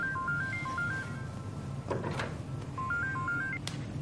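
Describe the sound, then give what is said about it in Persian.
A telephone ringtone plays a short stepped electronic melody, twice with a pause between, over a low background hum, as Mom is calling; a brief clatter of handling sounds falls in the gap. “بابا جونم، مامان زنگ زده میخواد باهات حرف بزنه.”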